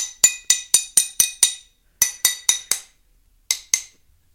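Crisp taps on scored glass, made to break it after cutting, with a bright ringing click each time: a steady run of six, a pause, four more, then two final taps after a longer gap. No one speaks.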